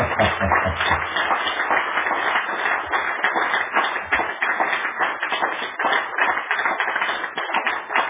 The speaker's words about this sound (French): Applaudissez maintenant pour vous-même.